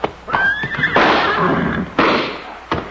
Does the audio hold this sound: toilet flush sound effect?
no